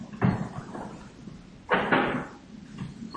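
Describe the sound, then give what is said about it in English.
Wooden knocks and a scraping shuffle as a chair is carried outside and set against a door to hold it open, with a louder clunk midway and quieter handling noises around it; no talking. “You see, I'm taking this chair, and I'm carrying this chair over here and outside to hold this door open.”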